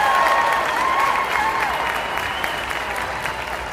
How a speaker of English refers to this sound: There was loud applause and cheering from the whole gym when they walked in.